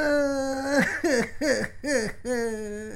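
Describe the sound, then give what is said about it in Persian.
A voice cries in a long, drawn-out wail followed by four sobbing bursts in a steady rhythm, fairly loud, sounding like an exaggerated, acted cry from a colored-pencil character in a children's programme. “قلم رنگ جان من گپ بدی زدم، گریه نکو دیگه جان خاله.”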